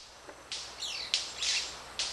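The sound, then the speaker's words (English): A manakin's (Manicus candii) wing-feather call, made with its oddly shaped feathers: a quick series of sharp, high pops and crackling snaps with brief buzzy sweeps, irregular like popping corn, standing alone over faint hiss. “Popcorn is how ornithologist Kim Bostwick describes the call of Manicus candii.”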